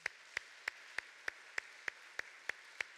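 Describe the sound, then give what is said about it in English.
A church audience claps together in a steady, even rhythm, giving themselves a round of applause after doing the wave during a sermon: about ten sharp claps over a few seconds above a faint hiss of room noise, with no one speaking. “Now give yourselves a round of applause.”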